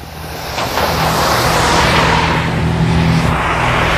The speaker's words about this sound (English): There's the 8 Market bus.